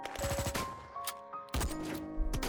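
sustained gunfire

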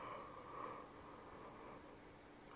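yawn

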